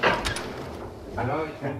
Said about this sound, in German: Ich stehe gerade noch halbnackt in meiner Zelle, als die Tür aufgeht. Aber auch das gehört hier dazu.